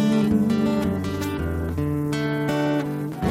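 A recorded Thai folk song plays steadily and fairly loud, with sustained, gliding melodic tones over a low drone for a few seconds and no talking over it.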